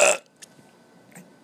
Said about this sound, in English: Ew! That was a legitimate burp, and it sounds like I just vomited out Satan. My brain is telling me to edit that out, but my heart is telling me to leave it, because F it.